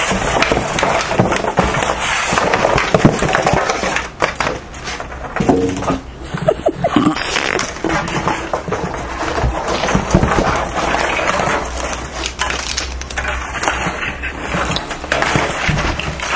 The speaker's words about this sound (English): We're taking out some packing out of a box here. None too gracefully, I might add.